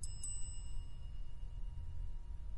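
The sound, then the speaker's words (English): A small bell rings out twice in quick succession, its bright metallic tone lingering and fading over a low steady rumble. No one speaks. “That is the bell.”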